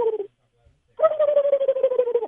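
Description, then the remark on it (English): A radio call-in listener imitates a turkey gobble over the phone: a short voiced note, a brief pause, then a sustained, rapidly fluttering mid-pitched warble that holds steady and fairly loud. “I honestly am so impressed with your turkey gobble.”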